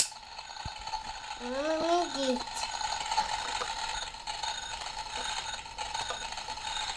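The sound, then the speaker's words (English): A few sharp mechanical clicks from a gas stove igniter being clicked to light the gas, spaced irregularly over a steady hiss, with a brief rising squeal partway through. “Clicking the gas. See, look, that's. Look. You do that to get the fire going, see?”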